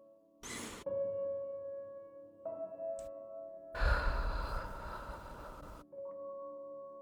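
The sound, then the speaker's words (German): A slow, deep breath drawn into the lower belly and then released in a long, airy exhale, fairly loud, with soft sustained tones droning underneath and no talking. “Und dann atmen wir dreimal ganz tief in den Bauch ein, und zwar in den unteren Bauch.”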